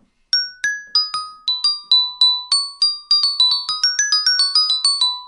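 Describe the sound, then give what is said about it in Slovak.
A glockenspiel with tuned metal bars plays a quick, bright melody of struck metal notes, each ringing briefly before the next, speeding up toward the end. Clear, no voices. “Zahraj na zvonkohre.”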